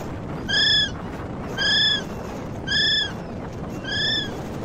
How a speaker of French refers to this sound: Mais attendez, le vent se lève et je vais profiter de l'occasion pour m'approcher et vous faire entendre le cri du kiwi.